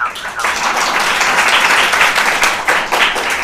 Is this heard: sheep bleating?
no